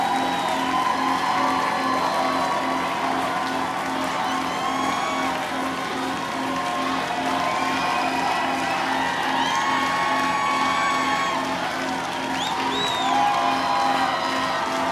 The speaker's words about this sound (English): And this crowd of 1,000 here at the 930 Club wants more for sure.